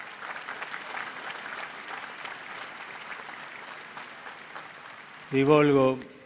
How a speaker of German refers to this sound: Und ich lade euch ein, sie alle durch einen Applaus zu begrüßen, unsere Brüder, die in der Audienzhalle die Audienz mitverfolgen.